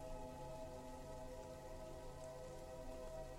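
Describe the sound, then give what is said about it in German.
Soft, steady rain patters continuously, a gentle even hiss of drops on a surface with no voices, blended with a faint sustained tonal hum underneath. “Der Regen umspielt ganz sanft dein Sein. Jeder Tropfen macht es dir noch mehr möglich, tiefer zu gehen, noch mehr zu entspannen und deinen Weg in den Schlaf zu finden.”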